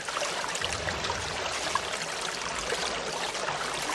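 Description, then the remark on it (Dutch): Water rushes steadily through pipes in a continuous, even hiss with a faint trickling texture, holding at a moderate level from start to finish with no voices, flowing from a long, thick pipe through thin pipes to the houses. “Vanuit de dikke buis stromen ze door dunne buisjes naar de huizen toe.”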